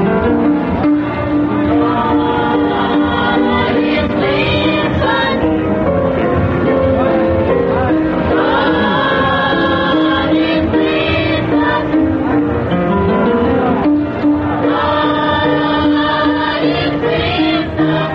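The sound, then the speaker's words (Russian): A children's choir of pupils from a Black religious school sings together in a full, sustained harmony, the voices loud, with phrases swelling and pausing briefly around the middle before resuming. “А сейчас вы слышите детский хор воспитанников негритянской религиозной школы.”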